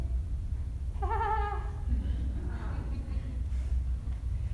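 A single wavering, quavering bleat from a sheep or lamb rings out near the start, clear, over a steady low rumble, followed by fainter indistinct sounds.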